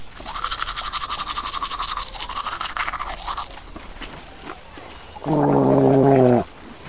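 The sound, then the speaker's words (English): Brisk scrubbing of a toothbrush against teeth runs steadily for about five seconds, followed by a loud, brief gurgling burst like gargling water. “He's got my toothbrush! This is his toothbrush!”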